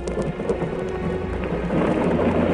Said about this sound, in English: Flares are coming down now. You can hear the machine gunning.